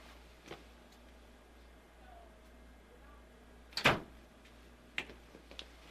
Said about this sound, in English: Yes, that was a door closing.